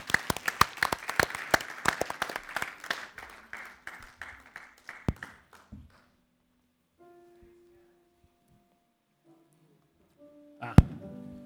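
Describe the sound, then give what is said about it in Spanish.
An audience bursts into dense, lively applause, many hands clapping rapidly and loudly before thinning out and fading after about five seconds, followed by quiet and a few soft tones. “Un aplauso, un aplauso.”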